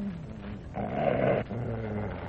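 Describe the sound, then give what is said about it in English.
Rin, Mr. Lee Duncan's dog, asked to say hello and speak up louder, growls steadily, with a louder, rougher burst in the middle that could be a bark, then settles back into a lower rumbling growl. No talking. “Well, he's certainly a very beautiful dog.”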